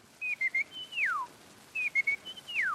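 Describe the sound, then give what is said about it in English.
A person whistles an imitation of a California quail call twice: a few short, steady high notes followed by a long note that slides sharply downward, clear against a quiet background. “To have it through some media is actually less wonderful and less amazing than to see a human being with the sound of a bird coming out of them. Little California quail.”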